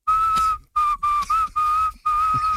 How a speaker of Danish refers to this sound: Altså, hun fløjter sådan her.